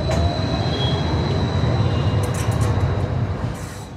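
A fully electric, Chinese-built modern tram rolls along steadily in Addis Ababa, a continuous low rumble of wheels on rails with a thin high whine running above it, fading slightly at the end.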